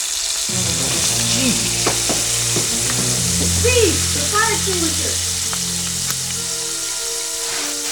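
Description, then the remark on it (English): Spam on fire in a hot pan sizzles and spits loudly, a steady, dense crackling hiss that runs the whole time, with a low droning hum and faint wavering tones underneath. “Dad, the spam's on fire.”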